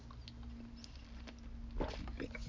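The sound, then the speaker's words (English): A quiet sip of Gatorade: a few soft clicks and rustles, then a brief slurping gulp near the end over a low steady hum, with no talking. “Let me get a sip of Gatorade here.”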